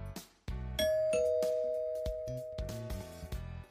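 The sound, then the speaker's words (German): A doorbell chimes its two notes, a higher tone followed quickly by a lower one, both ringing on and slowly fading over a few seconds amid some sharp clicks and thumps. “Müssen wir mal das Klingelgeräusch einspielen oder so.”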